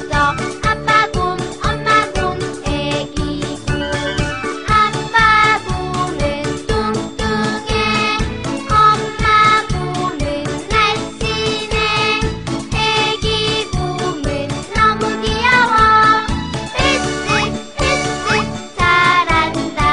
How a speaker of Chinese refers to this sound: 老师，那我们现在可不可以一起来听听三只小熊这首音乐呢？ 好啊，我们一起来听听看三只小熊吧。